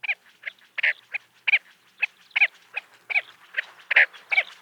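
Chestnut-bellied sandgrouse, a desert game bird introduced to Hawaii for hunting, calling: a rapid, uneven series of short, throaty, mid-pitched notes, about fifteen in a few seconds, some louder than others, with no talking.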